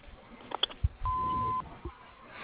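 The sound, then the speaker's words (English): A single steady electronic voicemail beep on the R&J Harvesting answering line marks the start of message recording. It is pure and even in pitch and holds for about half a second at moderate loudness after a few soft clicks and thumps, with quiet line hiss around it. “We're not available to take your call right now, but please leave your name and message after the beep.”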